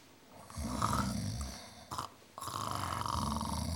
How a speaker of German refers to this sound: Dann hörten sie ein gleichmäßiges Schnarchen.